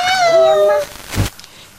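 animal, cat meowing

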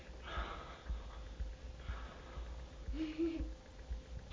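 human body sound, snoring

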